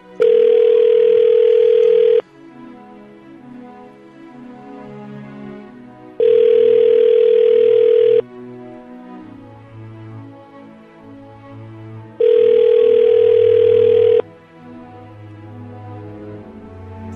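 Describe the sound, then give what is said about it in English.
An outgoing call's ringback tone while calling a best friend: three steady two-second rings, each followed by a pause of about four seconds, loud, with soft music playing quietly underneath. “Pick up the phone”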